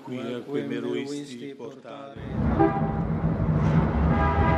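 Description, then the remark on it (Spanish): After a couple of seconds of a voice, steady city street traffic at a bus stop in Rome, near the Vatican, takes over: a loud, continuous rumble of engines with a horn-like tone sounding through it. “En una parada de autobús de Roma, cerca del Vaticano, encontramos a dos hermanas”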